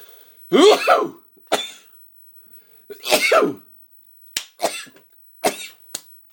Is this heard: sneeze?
yes